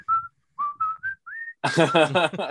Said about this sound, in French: la toune, c'est un gros riff metal, mais par-dessus, il y a une petite toune sifflée, tu sais.